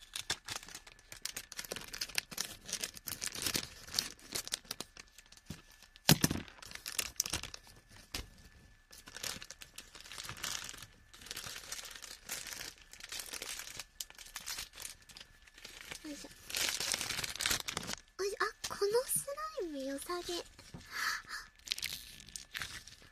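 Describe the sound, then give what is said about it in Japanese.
Busy crinkling and crunching of plastic with snipping and tearing sounds as scissors cut open a plastic bag to take out slime, continuing steadily with a few sharper cuts and squelchy handling near the end. “この袋をハサミで切って、スライムを取り出します。”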